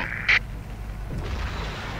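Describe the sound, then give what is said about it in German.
A helicopter crashes and explodes in a video game: a short sharp crack, then a low rolling rumble that swells into a muffled boom and fades into a continuing deep roar. No one speaks. “Ich finde es immer lustig, wie die abstürzen und dann explodieren.”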